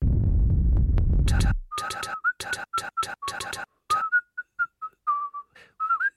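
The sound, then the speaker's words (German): A melodic whistled tune in quick, bright phrases, rising and falling, preceded by a brief low rumbling noise that cuts off abruptly; no voices. “Pfeifen, Schnee, Schwaden von vollkommener klanglicher Fülle.”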